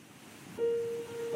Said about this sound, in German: Zum Beispiel sowas hier. Ich habe mal was mitgebracht. Einschlafmusik mit Meeresrauschen.